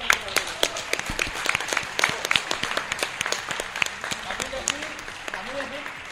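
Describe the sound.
An audience applauds steadily for about six seconds, a dense patter of many hands clapping at even loudness, with a faint voice briefly audible beneath it near the end.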